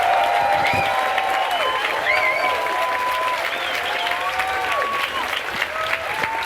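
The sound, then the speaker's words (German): An audience claps loudly and steadily for the full six seconds, applauding the outdoor bet (Außenwette), an eel with a forklift, a dense wash of applause with whistles and cheering voices rising above it. “Nochmal Applaus für die Außenwette.”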